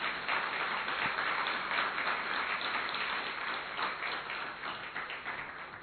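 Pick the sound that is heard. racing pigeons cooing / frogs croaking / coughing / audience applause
audience applause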